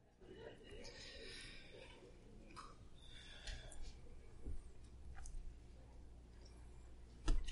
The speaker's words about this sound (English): We'll just give all the rustling a moment to settle.